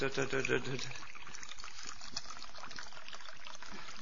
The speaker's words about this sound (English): And then I put the water in there. I sada sipam vodu u nju.